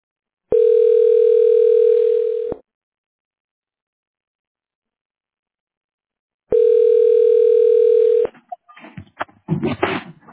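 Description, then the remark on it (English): Two steady, loud Google Voice phone line tones prompting the caller to state their name, each about two seconds long with a gap of silence between, followed by brief muffled rustling and clicks. “state your name after the tone, and Google Voice will try to connect you.”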